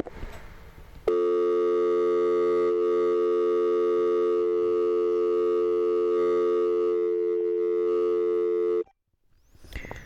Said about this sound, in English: For those people, if you've never used a traditional landline phone, when you used to pick up back in the day and hear a dial tone is what it's called, here's what it sounds like.